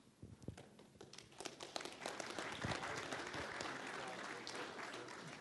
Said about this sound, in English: Hello, everyone. I love it when I get applause for doing nothing.